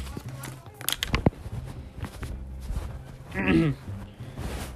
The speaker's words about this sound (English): Whoa, my paper is doing this thing with my earbuds. It's making this weird squeaky noise. I don't know if you guys could hear it.